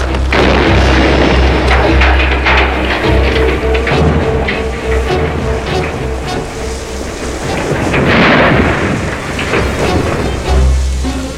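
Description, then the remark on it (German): Dynamite stored in Thurgood's shed explodes loudly as the barn burns, roaring into a long, heavy rumble with crackling debris, surging again in later bursts before fading. No one speaks. “Ach, ich hätte mir denken können, dass Thurgood sein Dynamit im Schuppen aufbewahrt.”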